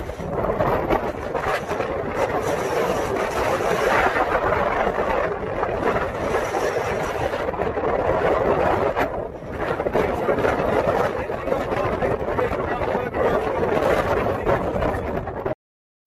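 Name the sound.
ocean waves and wind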